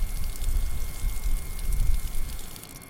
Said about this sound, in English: Now let me drink it first to show you how I love this water. And I am serious when I say this is the best tasting water I can get my hands on.